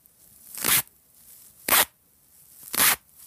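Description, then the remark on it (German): Three evenly spaced crunchy, scrunching bursts, each under half a second, made by rubbing foam pieces together so it sounds like slow footsteps in snow. No one speaks. “Ole reibt die beiden Schaumstoffdinger aneinander.”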